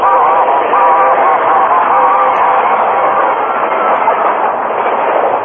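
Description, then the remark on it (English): A steam train races by on the rails, a loud, steady rush of chugging noise and rumble that fills the whole clip without fading, with faint tonal whines riding on top. “The train raced by, enveloping the Lone Ranger, Tonto, and the unconscious man in a cloud of steam.”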